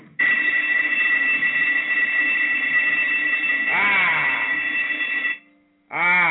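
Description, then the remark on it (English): A loud electric bell sound effect rings steadily for about five seconds with a harsh, buzzing tone, cuts off for a moment, then starts ringing again. “Yeah, I had to load up that bell sound effect.”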